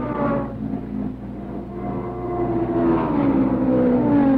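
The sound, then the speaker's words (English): Loud race car engines roar steadily as championship race cars accelerate through the dogleg on the first lap, with Bobby Unser pulling away and Mark Donahue running second. Their pitch climbs as they accelerate, and several engines overlap in a continuous, building drone. No voices. “Everybody makes it through the dogleg.”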